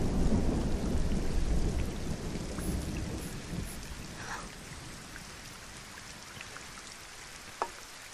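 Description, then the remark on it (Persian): A low, faint rumble of thunder under a cloudy sky rolls through the first few seconds and slowly fades, with a steady patter of rain and a single sharp tap near the end. “صدای خفیف رعد، آسمان ابری، شاید باران ببارد.”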